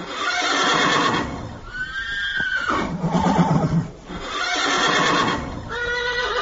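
horse neighing

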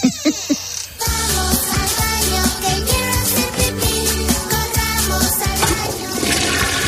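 toilet flushing

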